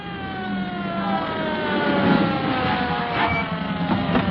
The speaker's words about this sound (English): Here comes the ambulance now. They certainly made good time.